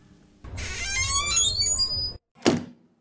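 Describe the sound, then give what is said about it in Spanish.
A door creaks open as the father arrives, with a long, wavering hinge squeal lasting nearly two seconds, then a single solid thunk follows after a brief pause. It sounds fairly loud, with no voices. “Ya ahí está vuestro padre en la puerta.”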